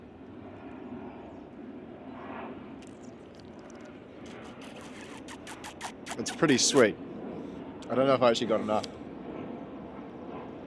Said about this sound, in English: So we got a plane going on in the background there to sort of add to the sort of ambiance.